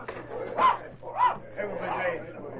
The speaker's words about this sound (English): And look at the mutt growling over him.